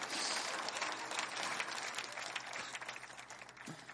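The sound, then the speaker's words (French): Steady audience applause in a church fills the whole four seconds, a dense, even patter of many hands clapping at a fairly strong level that tapers off only slightly at the end. “Applaudissez 5 secondes pendant que je décide ce que je coupe de mon message.”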